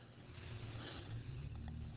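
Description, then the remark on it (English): A car engine runs at a low, steady rumble as the car backs slowly into a driveway, idling and creeping with slight shifts in pitch, fairly quiet and continuous with no voices over it. “Yeah, I hear Michelle backing in the driveway.”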